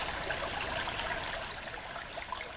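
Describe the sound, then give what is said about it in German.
The Wipper river babbles and splashes steadily through meadows and forest near Bilzingsleben in Thuringia, Germany, a continuous wash of trickling water with small bright gurgles, with no voices present. “Die Wipper plätschert durch Wiesen und Wald,”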